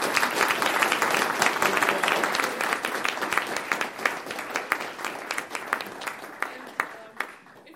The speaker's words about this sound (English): please give the panelists a round of applause.